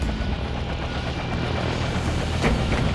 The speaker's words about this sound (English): We set down light in the center of the helipad. Several other desert camo helicopters were tied down around us.